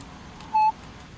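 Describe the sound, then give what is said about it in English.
A single short touch-tone beep, like one telephone key press, sounds clearly once against a low background hiss. No voices are heard. “We have a touch tone phone that we pay extra for that.”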